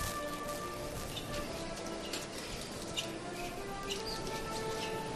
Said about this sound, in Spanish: Podemos captar el sonido del rachear de los costaleros sobre el mármol de la capilla, la puerta. Ya se llena de paso, escasamente medio metro para que la parte delantera esté ya en la calle.